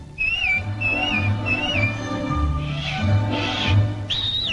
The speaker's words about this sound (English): And anytime you need me, you know, just whistle, like this.